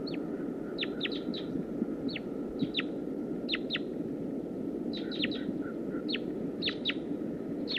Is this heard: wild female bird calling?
yes